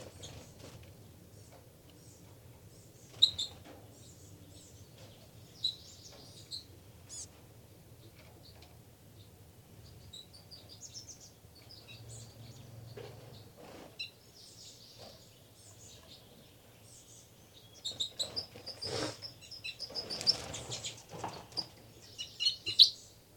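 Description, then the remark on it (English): Birds chirp and squabble in short, high-pitched bursts, sparse at first and then a louder, frantic flurry of overlapping calls near the end over a low steady hum. “Another fight between the birds.”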